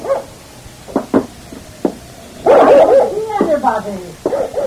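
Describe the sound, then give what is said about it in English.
A dog named Forty barks several times in short, sharp bursts, then gives a longer run of loud, excited barking and whining, while people talk over it. “Well, then what's Forty barking for?”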